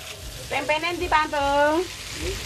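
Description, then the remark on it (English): Chicken deep-frying in hot oil at a makeshift local kiosk in the corner of a dusty open car park in Kuta, Indonesia, cooked by the owner for lunch, gives a steady crackling sizzle throughout, while a voice rises briefly over it in the middle. “In the corner of a dusty open car park in Kuta, the owner of a makeshift local kiosk is deep-frying chicken for lunch.”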